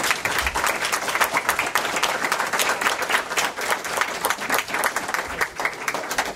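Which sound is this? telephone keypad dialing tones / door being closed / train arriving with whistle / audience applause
audience applause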